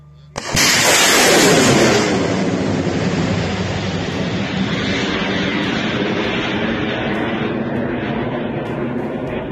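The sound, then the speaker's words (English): An air defense missile, apparently a Western-supplied IRIS-T SL or SAMP-T engaging Russian threats in Ukrainian Air Force footage, launches with a sudden loud blast, followed by a sustained, roaring rocket rush that slowly fades and shifts in pitch as it climbs away. No one speaks. “Ukrainian Air Force Commander Lieutenant General Mykola Oleshchuk released footage of what appears to be either an Western-supplied Iris-TSL or SAMP-T engaging Russian launch threats.”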